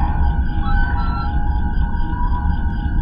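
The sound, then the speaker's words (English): A sci-fi sound effect from Star Trek: steady, high-pitched whistling tones hold over a constant deep rumbling hum for several seconds, loud and unbroken, with no voices. “Well, they are, of course, sounds from Star Trek, but why is there a connection between the sci-fi classics and the sound of frogs?”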